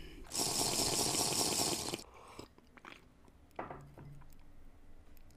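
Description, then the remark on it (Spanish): A loud burst of crinkling, hissing noise, like a plastic bottle being handled, followed by quiet mouth clicks and a soft gulp as someone takes a sip of water. No one speaks. “Voy a tomar un poco de agua.”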